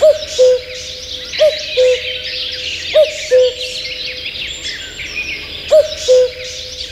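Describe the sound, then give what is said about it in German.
A common cuckoo calls its two-note descending "cu-coo" several times at a steady pace, clear, over a busy background chorus of smaller birds twittering in the woods. “Letzte Woche die Nachtigall und jetzt schon wieder so ein sagenumwobener Vogel, der uns aus dem Wald ruft, kann man ja schon sagen.”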